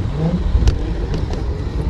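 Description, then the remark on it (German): An electric scooter riding at a constant 30, overtaking a cyclist, a steady rumble of wheels and wind with a few sharp clicks and rattles scattered through it. “Das Fahrgefühl auf einem E-Scooter ist speziell.”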